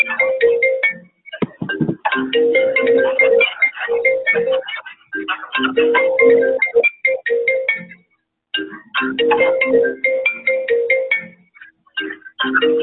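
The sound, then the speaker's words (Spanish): A mobile phone ringtone for an incoming call plays a bright, repeating electronic melody, loud, breaking off for a moment before the tune starts over again. No voices are heard. “a alguien le están llamando, a alguien que está utilizando el móvil le están llamando.”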